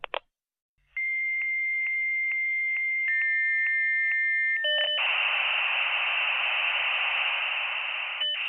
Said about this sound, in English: The sound of a modem establishing a connection already belongs to history. And yet, when I first heard it, I was already a working adult, and I'm not exactly ancient now.